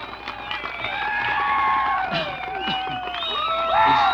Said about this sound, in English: and give Hilo a great big round of applause, don't you?